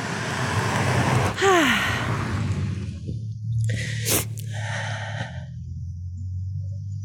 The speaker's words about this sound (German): Und jetzt kommt schon wieder ein Auto. Verrückt heute.